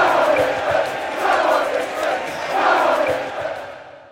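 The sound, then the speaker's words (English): A large football stadium crowd roars and shouts together, swelling in rhythmic waves like a chant, loud and dense throughout before tapering slightly at the end. “But when the entire crowd is chanting together, that's a whole other challenge.”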